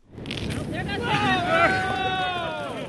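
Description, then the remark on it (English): A loud, rushing fizz of Diet Coke geysering out of a bottle after Mentos mint candies are dropped in, a broad hissing spray more than 10 feet tall that swells and holds, with excited voices whooping and exclaiming over it as Michelle Norris and David Kestenbaum demonstrate the effect. “When the Mentos are dropped into the bottle, a geyser of soda more than 10 feet tall spews out.”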